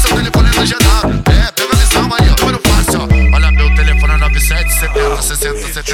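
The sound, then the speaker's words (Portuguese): A loud electronic phone ringtone plays, a busy rhythmic melody with a thumping beat that shifts into sustained, held synth tones toward the end. “Alguém ligou pra mim.”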